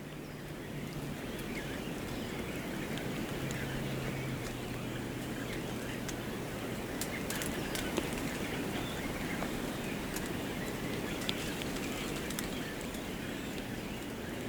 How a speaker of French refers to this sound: Des oiseaux qui piaillent.